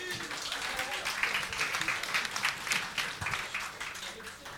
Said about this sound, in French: Applaudissements.